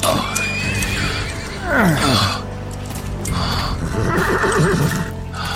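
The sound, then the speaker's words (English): A horse whinnies, a loud neigh sweeping downward midway, followed by more snorting and whinnying calls over a steady background of hooves and movement. “Let me help you on your horse.”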